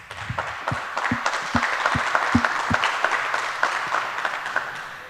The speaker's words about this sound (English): Give him a warm applause.